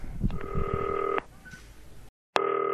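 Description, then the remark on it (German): A green telephone on an island rings with a steady electronic dual-tone burst, then pauses briefly before a second ring starts; the tone is clear, with faint background noise early on. “1899, FaceTime-Telefon, ich leg den Hörer daneben, Mikrofon fällt um, aber das klingelt.”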